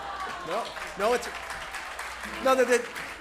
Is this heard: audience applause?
yes